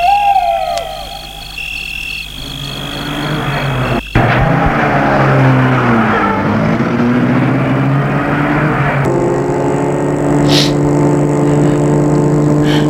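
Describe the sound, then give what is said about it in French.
Night creatures call softly until a single car door thuds shut as two women get into the car, then an engine starts up and revs, its loud steady rumble carrying on as the car pulls away. “Elles entrent dans la voiture.”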